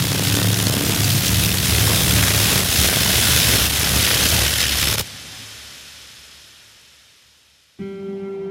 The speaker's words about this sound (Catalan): T'hi acostes i totes les papallones comencen a aletejar. centenars de papallones fent bategar les ales alhora. Fan un soroll estrident que se't fica dins el cap com si et perforessin per dins.